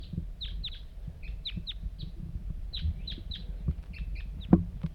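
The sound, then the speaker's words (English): A lone wild bird calls nearby in a steady run of short, high, downward-sweeping chirps, repeated in quick bursts over a low rumbling background, with one sharp knock near the end. “And it's real nearby right now.”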